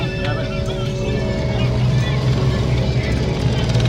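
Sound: motorcycle engine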